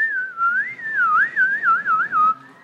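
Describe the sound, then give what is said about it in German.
A group of boys whistles a bright, wavering tune together, the melody rising and falling in quick phrases for a few seconds, fairly loud with no talking. “Und rings um das Meer der Tränen, pfiffen alle Jungen mit.”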